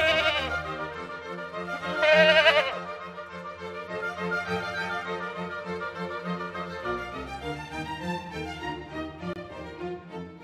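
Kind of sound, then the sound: animal, goat bleating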